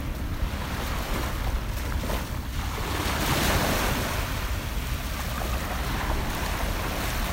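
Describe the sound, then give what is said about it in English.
Rough ocean surf churns and splashes steadily for several seconds as a surfer struggles to paddle a board out through harsh waves. A broad rushing wash with wind buffeting the microphone, swelling slightly in the middle. No one speaks. “Those waves are a little bit harsh.”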